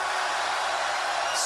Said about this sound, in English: Only the VIP. Scream! Good. Everybody scream!